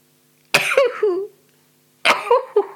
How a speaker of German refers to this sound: Entschuldigt bitte. Ich bin dankbar dafür, dass ich niesen kann. Dass ich es rauslasse. Ich habe auf der Schauspielschule, ich bin ja nach der Ostmethode groß geworden, und da habe ich gelernt, nach innen zu niesen, also dass man es nicht hört.